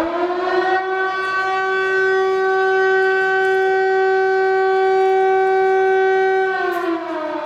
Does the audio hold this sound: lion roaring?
no